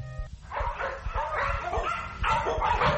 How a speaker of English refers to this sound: Here's the pet shop. They're buying a dog.